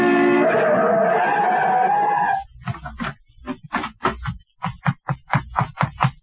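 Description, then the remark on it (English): A car approaching on a highway skids with a loud, sustained tire screech lasting a couple of seconds as a man is pushed into the road, then stops abruptly, followed by a quick series of short, choppy knocking noises. “In the middle of the highway, I waited for a car to go by, but as it approached, Tanner came up behind me and pushed, and I went sprawling in the road.”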